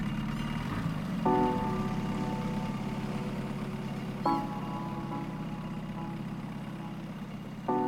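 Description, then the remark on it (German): A boat motor starts and runs steadily in the dark on a crossing toward a Greek island, a continuous low rumbling drone, with a few brief surges in pitch as it revs up before settling back into an idle. “Und tatsächlich, der Motor springt an.”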